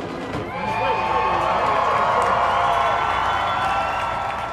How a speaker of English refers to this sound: as he got out, there were folks in the stands who started yelling, Trump, Trump. He waved to the crowd. He had a really warm reception from some of the folks here.